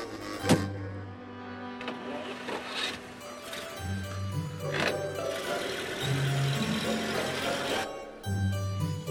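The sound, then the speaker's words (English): A limousine's power window whirs with a steady electric motor hum, broken by a few sharp clicks and thumps, with faint background noise. “it's a limousine.”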